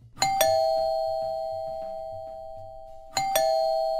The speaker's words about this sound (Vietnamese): San đi tới bấm chuông cửa, trong khi cô Thanh đứng đợi bên kia đường.